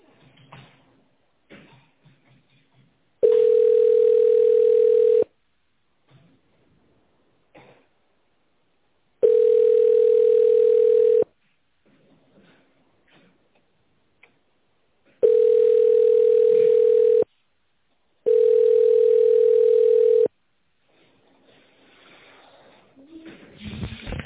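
A steady single-pitch telephone ringback tone sounds four times, each burst about two seconds long with longer silent gaps between, while faint line noise and brief murmurs fill the pauses, on a call to the company Rossambo while waiting for an operator to answer.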